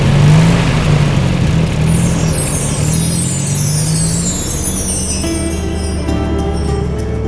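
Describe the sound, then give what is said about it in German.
A loud engine rumbles steadily as an old pickup truck with passengers on the back seat pulls away from a yard, its low drone shifting pitch while it accelerates, with a high whine rising above it near the end. “Kurz darauf saßen sie auf der Rückbank des alten Pickups und fuhren mit dem Professor vom Hof.”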